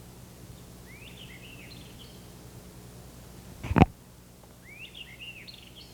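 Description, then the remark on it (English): A White Iveria songbird sings in the woods through dense undergrowth, two short, quick warbling phrases several seconds apart, fairly faint over a low steady hum, with a single sharp thump between them. “White Iveria singing off into the woods.”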